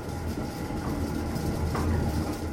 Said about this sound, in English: Yes, it's a windmill.